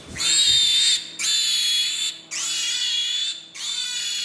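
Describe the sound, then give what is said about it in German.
Pigs squeal in a conventional pig barn: four loud, shrill, drawn-out squeals, each about a second long, follow one another with brief pauses, over a low steady drone of the ventilation. No one speaks. “Kunstlicht, Dröhnen der Lüftung, Menschenstimmen. Schweinegrunzen, Ferkelküken.”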